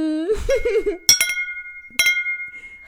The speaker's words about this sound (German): Ich proste jetzt mal mit dir. Ja. Prostlinchen.